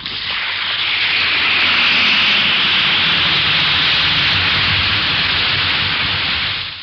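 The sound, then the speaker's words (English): An Alka-Seltzer tablet fizzes in water with a steady, dense hiss of tiny popping bubbles, loud and even throughout, with no voices. “Listen to it fizz.”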